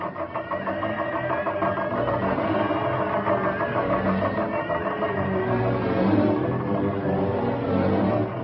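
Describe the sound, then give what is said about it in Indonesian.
A bamboo slit drum (kentongan) is beaten rapidly and without pause as a danger alarm, its hollow, woody knocks blurring into a dense, steady, rattling drone that stays loud throughout. “Kentongan tanda bahaya.”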